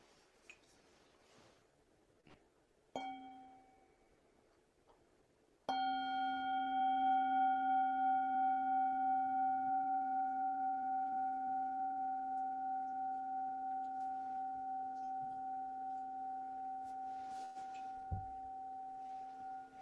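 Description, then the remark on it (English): A meditation bell is struck once, full and rich, its humming tone sustaining and slowly fading over many seconds. A brief, softer tap comes a few seconds before the main strike. “When I offer us one bell.”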